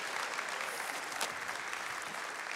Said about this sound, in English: And can everybody give a round of applause